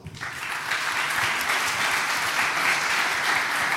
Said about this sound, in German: So, des Weiteren müssen wir natürlich auch noch den Stura nennen, weil normalerweise muss man da Geld bezahlen. Die haben einfach gesagt, was? CCC? Okay, cool. Lasst mal das Geld stecken. Auch für die bitte einen Applaus.